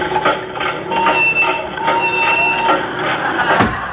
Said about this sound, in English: That's enough, Professor. Start the dehydrator.